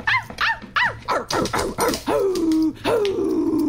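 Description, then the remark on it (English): A quick run of about eight close, loud dog barks, each pitched differently, followed by two longer drawn-out whining yelps. No one speaks. “It just barks, but I can do different pitches.”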